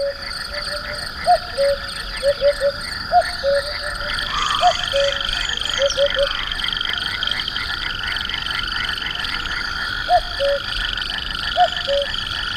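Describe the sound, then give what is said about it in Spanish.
Frogs croak in repeated short bursts over a steady, dense chorus of crickets and insects, a continuous high shimmering background with no voices, on a late-spring evening at nightfall in the dehesa de Toril, Extremadura, Spain, near Monfragüe. “Pero ya escuchamos a los anfibios, las ranas por ahí al fondo, y los primeros grillos de la oscuridad.”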